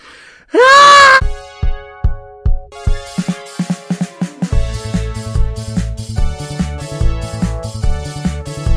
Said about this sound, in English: Right then, time for my morning scream.